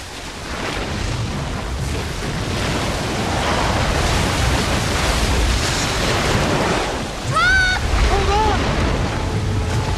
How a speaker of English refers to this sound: The sound of falling water gets louder. Lena notices the cascading water up ahead